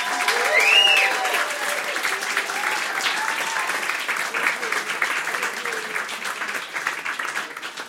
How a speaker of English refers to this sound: Do your best clapping, please,